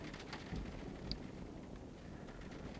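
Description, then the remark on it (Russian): Steady hiss of very heavy rain outside a window, heard from indoors, with a low rumbling of thunder underneath during a storm with lightning. Fairly quiet and continuous, with no one speaking. “У меня тут шум будет, за окном дождь, гром.”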